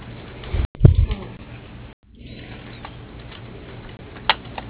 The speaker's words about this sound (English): The keys you press don't match a name I recognize.